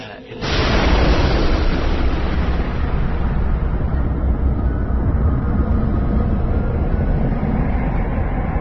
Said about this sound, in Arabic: كان سعيد مذهولا تماما من مشهد انفجار البحر وتحول أمواجه إلى نار ودخان